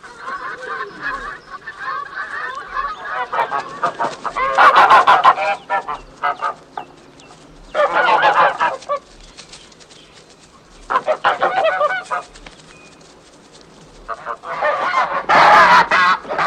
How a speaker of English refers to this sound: A young girl wearing a white bonnet and carrying a shepherding stick drives a gaggle of geese up a country lane, which is littered with fallen autumnal leaves.